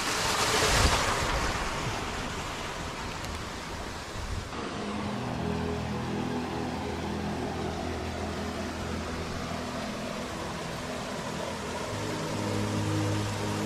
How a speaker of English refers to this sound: And this water is probably the cleanest we've seen anywhere. Beautiful running fresh water.